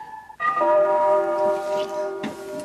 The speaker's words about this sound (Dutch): De volgende jingle komt uit de jaren 70. De nieuwsdienst is ondertussen gemoderniseerd en de fanfare heeft plaats moeten maken voor een klokkenspel.